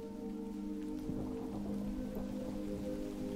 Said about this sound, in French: Le ciel s'assombrit brusquement et quelques gouttes de pluie s'échouent sur votre visage.